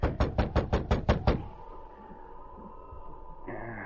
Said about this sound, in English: Too cold to wait out here. Reckon she didn't hear my knock.